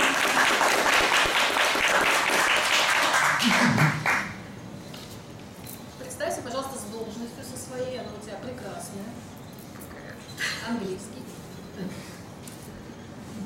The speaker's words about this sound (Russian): Аплодируем